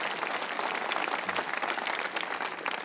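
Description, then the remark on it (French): A church audience applauds what God is preparing for them, many hands clapping in a dense, even wash of sound that holds at a constant loudness throughout, with no voices rising above it. “Ceux qui le croient dans votre âme, dites Amen ce matin et applaudissez donc ce que Dieu nous prépare.”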